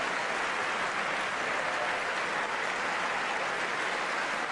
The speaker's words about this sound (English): Wait, who are they clapping for? Oh, they're clapping for women. Yes.